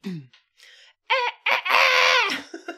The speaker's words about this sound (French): Oh, c'est pas du possible, il va bien finir par se taire, ce satané coq de milieu. Non mais oh, il est trop tôt, tu le sais, ferme-la, non mais...